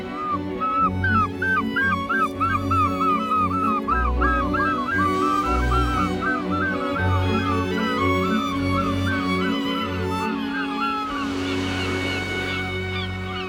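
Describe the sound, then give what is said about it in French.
A human voice imitates a gull, letting out a long run of rapid, repeated squawking cries, loud, over a low rumbling background. “Et puis un goéland,”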